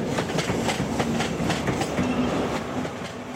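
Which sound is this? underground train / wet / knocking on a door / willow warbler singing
underground train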